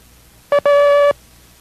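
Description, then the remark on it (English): The Morse code character A ('Abel') sounded as a steady mid-pitched tone: one short beep followed by one long dash, clear and fairly loud with a slightly buzzy edge, against a quiet background. “You see, in this group of characters, we have a combination of dots and dashes, where in the previous groups, there were either all dots making up the characters, or dis, as we refer to them by sound, or dashes, or das”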